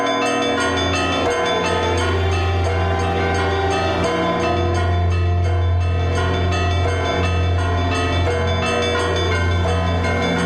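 Church bells ring together in a loud, dense peal, their overlapping strikes and long humming tones blending into a continuous wash of sound with no voices.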